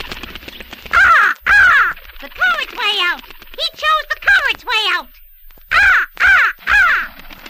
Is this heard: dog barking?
no